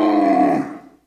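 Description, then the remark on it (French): A camel lets out one loud, throaty bellow, a rough groaning call lasting about a second before it trails off into silence. “Le chameau blatère.”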